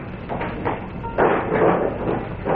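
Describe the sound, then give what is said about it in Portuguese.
A drawer slides open with a dry, rumbling scrape, a few short jerky pulls first and then a longer, louder drag, with no one talking, as the drawers are searched. “Ô, chefe, vamos olhar nas gavetas.”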